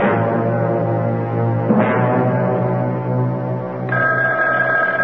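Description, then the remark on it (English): A telephone rings loudly and continuously for several seconds, a steady, buzzing tone that shifts slightly partway through, with no voices. “That telephone never seems to stop ringing.”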